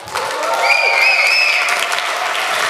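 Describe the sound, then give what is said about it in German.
A stage show crowd applauds loudly and steadily to welcome the second round, with a sharp sustained whistle cutting through the clapping for about a second; stomping is not clearly distinguishable beneath the dense applause. “Dieses Pfeifen und so wünsche ich mir öfter. Dieses Stampfen und Trampeln finde ich auch wunderschön.”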